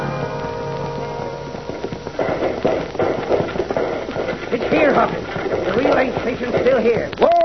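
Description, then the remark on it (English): Horses ridden in the dark gallop, hooves clip-clopping in a rapid, steady rhythm, while riders' voices call out over the pounding throughout. “We'll have to defend our horses as well as ourselves.”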